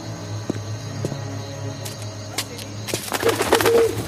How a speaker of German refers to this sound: Was war das für ein Vogel?